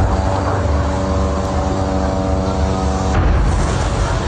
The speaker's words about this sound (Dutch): En dat is zo'n explosie.